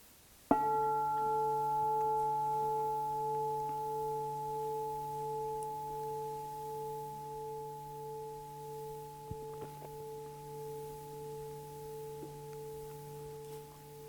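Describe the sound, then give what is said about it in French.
A gong is struck once, then rings on for over ten seconds as a steady blend of sustained, humming tones with a gentle slow wavering, slowly fading with no voices. “Alors, je vais sonner le gong.”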